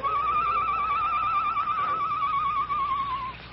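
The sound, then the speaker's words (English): A night bird's low call from outside the barred window of a jail cell: one long, warbling whistled note with a fast, steady trill. It holds a single pitch for about three seconds, then fades out, with nothing else sounding alongside it. “Shortly after the sheriff and the Perrys had left the Lone Ranger's cell, he heard the low call of a night bird outside the barred window.”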